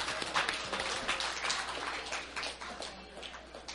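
A crowd applauds steadily, many hands clapping in a dense, crackling wash that holds at a fairly even level for a few seconds, with a few cheers mixed in.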